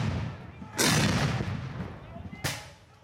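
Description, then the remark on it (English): Two loud outdoor blasts of cannon and rifle fire at a battle reenactment with men in Union and Confederate uniforms, a heavy boom near the start and a sharper crack about two seconds later, each rolling off across a long field with faint murmur from about 500 spectators. “They carry rifles and flags and push cannons into position. Then the fighting begins.”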